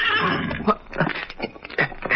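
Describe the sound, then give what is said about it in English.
A horse named Victor gives a warning whinny at night under a full moon, a series of shrill, wavering cries that rise and fall over about two seconds, loud, with no talking. “Then he was suddenly startled by a warning whinny from his horse, Victor.”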